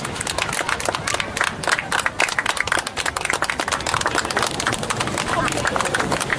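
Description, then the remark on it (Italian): An audience at a laughter yoga session applauds, a dense, steady patter of many hands clapping at once that stays loud and even for the whole stretch without fading. “Ma come avete applaudito?”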